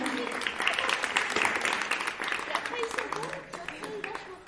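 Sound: audience applauding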